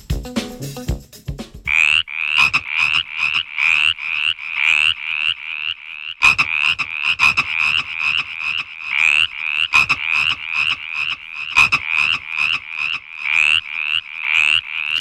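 A chorus of frogs croaks in rapid, rhythmic pulses, loud, with repeated bursts overlapping steadily throughout. No voices are heard.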